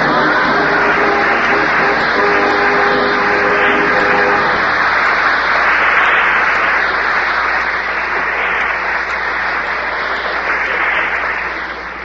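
A loud, steady hiss of a jet of moisture spraying runs continuously for about twelve seconds, with a faint tonal hum underneath at the start, then tapers off slightly at the end, used in an advertisement for the moisturized Rolly 903 cigarette.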